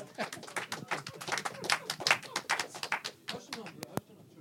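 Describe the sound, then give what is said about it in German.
A burst of hand clapping, rapid and a little uneven, keeps going for several seconds before ending on one sharp, loud clap followed by quiet. “Ich darf trotzdem klatschen”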